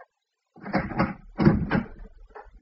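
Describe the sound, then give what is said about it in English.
The door of a flat is tried and opened: a couple of clattering, rattling bursts as the handle and door move, then a short softer knock at the end, with no one speaking. “There was no answer, and I tried the door.”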